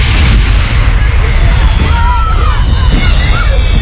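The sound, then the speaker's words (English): Fireworks boom and crackle in a steady, dense barrage, loud, with a few high whistles rising through the rumble and a crowd murmuring underneath. “How about thing, them fireworks? Pretty cool, huh?”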